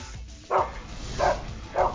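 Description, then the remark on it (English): A dog barks three times in short, sharp woofs spaced apart, clear over a low background rumble, with no talking. “I can't believe I'm a dog.”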